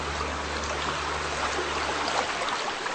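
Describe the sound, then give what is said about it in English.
A river in Alaska flows steadily with a continuous rushing and bubbling wash, a faint low droning hum running underneath, and no voices. “A wet land of forests, boggy tundra, lakes and rivers.”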